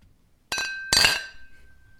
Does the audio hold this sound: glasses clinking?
yes